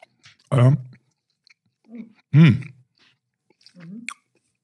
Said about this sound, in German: Und wir gucken mal, wie es schmeckt. Wir testen das jetzt mal. Wenn es jetzt gleich ein bisschen schmatzt und knirscht, dann genau, sind wir. Genau, Entschuldigung.